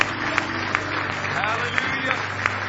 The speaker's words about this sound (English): Give him a hand clap of praise this morning.